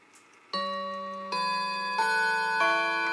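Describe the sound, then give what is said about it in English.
A clock plays the opening of the Westminster chime: four bright, bell-like notes struck in steady succession, each ringing on and overlapping the next, with no voices. “Don't like its implementation of Westminster as much as I like the other chime, but it's there if you want it.”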